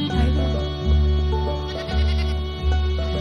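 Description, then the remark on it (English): Two goats in a yard, climbing on hay bales and a table and munching flowers, bleat in a loud, continuous run of about four long, wavering calls that follow one another with almost no pause, and no voices are heard. “Goats go, I guess you're kind of cute.”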